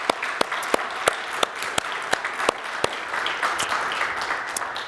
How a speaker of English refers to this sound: Thank you, guys. You're part of the reason we enjoy what we do, and we are indebted to you and very thankful for your service. If you just give one more applause, I just think that's really cool.